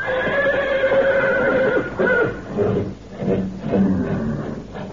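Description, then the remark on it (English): Several horses at a ranch at night neigh and whinny restlessly, their calls overlapping in loud, strained bursts across the whole stretch, with a few stamping movements beneath and no talking. “When I heard the horses getting so restless, I took a flashlight and a rifle and went for a look-see.”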